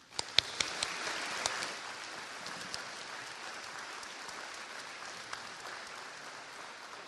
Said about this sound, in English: So all together, let's give a big round of applause to veterans.